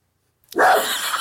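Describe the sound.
After a short silence, a person lets out a single loud, harsh bark-like yelp, imitating a dog, abrupt and trailing off at the end.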